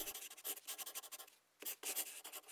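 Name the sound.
pen writing on paper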